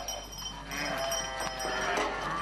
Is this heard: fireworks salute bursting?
no